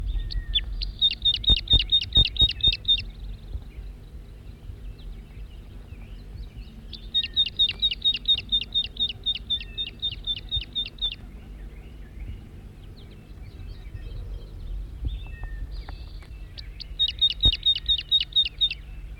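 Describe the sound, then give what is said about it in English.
A wild male crossbill, recorded at close range, calls in three bursts of rapid, evenly repeated high-pitched notes, separated by quiet pauses, over a steady low rumble with no talking. “Wild bird, stop. It's recording the wild male again from close range.”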